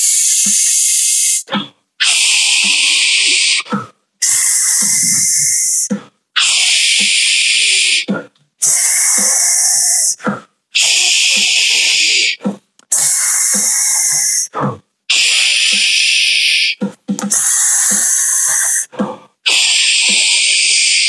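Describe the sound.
A voice does a breathing exercise, making a steady series of loud, sharp "sch" hisses held for four beats each, about nine bursts in a regular rhythm, each lasting around two seconds with short quick breaths in between.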